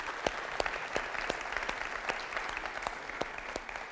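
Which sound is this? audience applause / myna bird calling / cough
audience applause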